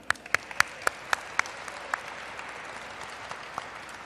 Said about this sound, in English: Now, let's all give another round of applause for standing together in unity for today's Juneteenth celebration.